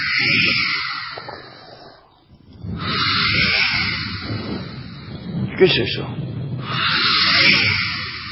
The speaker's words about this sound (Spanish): Las olas. Eso es el viento. Las olas hacen...